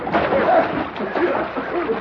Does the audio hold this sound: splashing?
yes